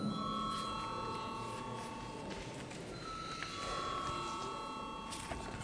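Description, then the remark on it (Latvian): A parliament chamber bell rings in a steady, sustained high-pitched tone lasting several seconds, with a low murmur of background noise underneath. It is rung in a Latvian-language parliament session before a vote on a bill amending the law on judges' service pensions. “Lūdzu, zvanu.”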